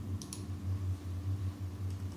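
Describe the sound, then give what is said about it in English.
Faint, soft typing on an Apple aluminum computer keyboard with a few light clicks, mostly near the start and end, heard over a steady low electrical hum. No one speaks. “Now, I'm going to type on my Apple aluminum keyboard and see if you can hear it.”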